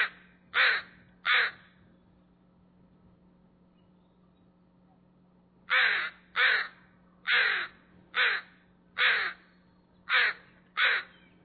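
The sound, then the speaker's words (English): A crow caws loudly in the morning at a person recording it from about 6 to 8 feet away: two harsh calls, a pause of several seconds, then a rapid series of about seven more raspy caws in a steady rhythm, with a low hum underneath. “And the crow was just yelling at her, and she was happily recording everything.”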